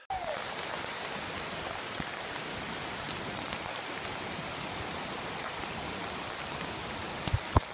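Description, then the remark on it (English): A steady, dense wash of rushing creek water fills the whole recording at an even level, continuous, with a couple of brief sharper splashes or knocks near the end. Recorded on a phone. “And so we have a video clip of me going off in the creek.”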